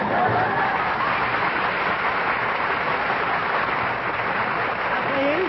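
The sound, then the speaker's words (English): A steady wash of audience applause, many hands clapping densely and continuously at an even level for several seconds, with a faint murmur of voices underneath. “Please. Don't applaud.”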